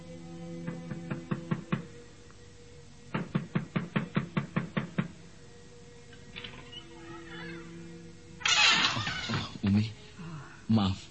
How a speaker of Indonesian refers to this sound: Tiba-tiba pintu kamarnya diketuk dari luar.